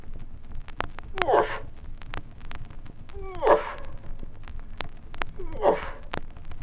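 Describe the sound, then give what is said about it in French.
Three short, muffled bellows like stifled dog yelps from males answering a female's mating call, spaced about two seconds apart at moderate volume, with faint scattered clicks and a low background hum between them. “Là où les mâles qui ne pourront résister à ce cri d'amour accourront en lançant de courts beuglements qui, eux, ressemblent au jappement étouffé d'un chien.”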